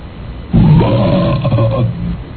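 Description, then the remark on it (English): A belch sound effect from a set of body sounds: a long, loud belch erupts abruptly, a deep, rumbling guttural sound that holds for well over a second with a rough, roar-like quality before tapering off. “Here's the one that says belch.”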